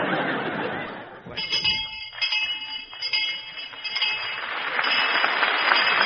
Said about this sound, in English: Well, there's the bell, kids. I'll have your scores in just a moment.